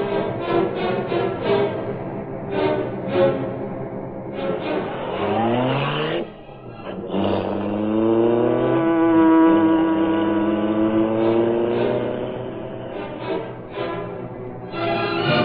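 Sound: car engine revving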